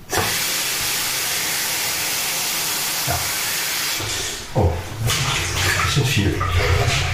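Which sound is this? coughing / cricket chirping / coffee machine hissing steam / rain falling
coffee machine hissing steam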